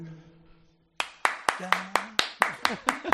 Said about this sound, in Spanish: ¿Tú aplaudes a las furgonetas? Pues yo te aplaudo. A las furgonetas.